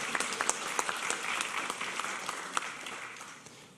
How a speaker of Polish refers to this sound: Tak więc, drodzy Państwo, wielkie brawa dla laureatów.